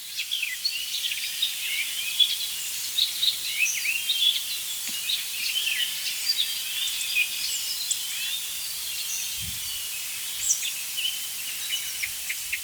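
An icterine warbler sings a long, fast, restless stream of varied chattering and squeaky notes, mixing in imitations of other birds, at a steady moderate loudness with no voices.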